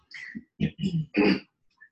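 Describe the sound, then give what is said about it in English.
A voice demonstrates a guttural Arabic consonant with a few short, rough rasps like clearing the throat, each burst harsh and breathy with brief pauses between. “You kind of like you're clearing your throat.”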